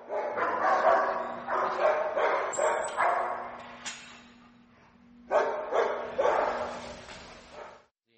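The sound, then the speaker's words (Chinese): Dogs bark in a kennel in rapid, overlapping, loud bursts, with a brief lull midway before the barking resumes. A steady low hum runs underneath throughout. “我们的远足完成了，我们会把它送回犬房，让它休息休息，它会喝点水补充水分。”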